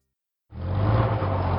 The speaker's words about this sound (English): The bus parted from Alejandro as he stepped into his old neighborhood, a small, suburban paradise he once lived in only a few years ago.